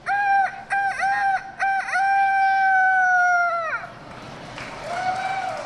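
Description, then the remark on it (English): A child's voice imitates a rooster crowing at a youth rooster crowing contest at the Iowa State Fair, starting with a few choppy bursts and then holding one long, loud, strained cock-a-doodle-doo, followed by a fainter second attempt. “Dozens of kids fidget and whisper as they wait for their turn at the Youth Rooster Crowing Contest.”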